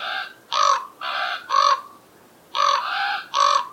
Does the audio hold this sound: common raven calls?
yes